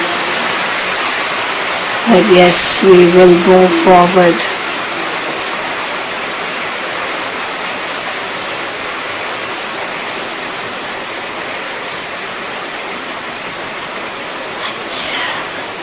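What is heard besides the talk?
audience clapping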